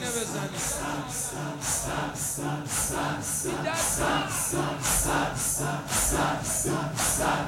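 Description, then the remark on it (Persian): A large crowd beats their chests in unison, a steady run of about a dozen loud, evenly spaced thumps over a constant murmur of many voices. “همینجوری سینه بزن با قدرت.”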